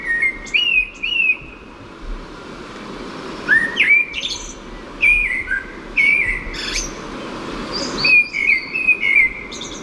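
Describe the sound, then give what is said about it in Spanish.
A male blackbird sings in several separate fluty, whistled phrases, each ending in a thin, high twitter, with short pauses between them over soft outdoor background noise. “Un mirlo. Es un mirlo macho.”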